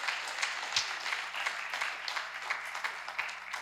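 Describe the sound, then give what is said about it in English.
A church audience applauds steadily for 82 kids giving their hearts to Jesus in the church's kids' ministry, dense overlapping claps forming a continuous wash of noise with a few sharper individual claps standing out, sustained at an even level throughout. “And save your best applause for now, 82 kids giving their hearts to Jesus.”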